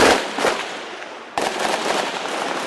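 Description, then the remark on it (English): Heavy gunfire crackles in a dense, unbroken barrage outside hospital walls in Cité Soleil just before midnight, with sharp individual reports standing out, one especially loud crack midway. Harsh, with no voices. “Then gunshots ring out, and everybody runs.”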